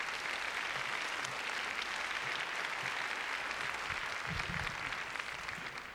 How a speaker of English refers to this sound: Let's have another round of applause then once again for … and ….